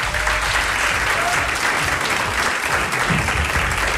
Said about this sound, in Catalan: Un fort aplaudiment des del Palau Robert de Barcelona per la reina.